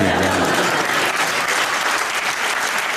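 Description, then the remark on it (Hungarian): Steady audience applause after a performer announces he is expecting a child, a dense wash of many hands clapping at once, loud and even throughout with no voices standing out. “Ezt meg szokták tapsolni, de hát ez...”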